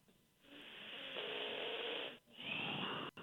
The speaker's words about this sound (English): Somebody's just breathing heavily into the phone.